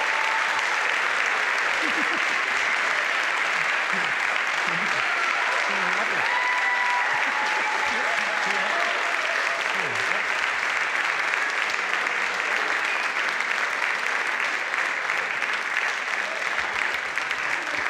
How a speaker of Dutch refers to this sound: En een groot applaus voor het kinderkoor.